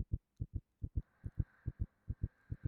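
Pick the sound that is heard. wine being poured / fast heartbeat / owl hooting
fast heartbeat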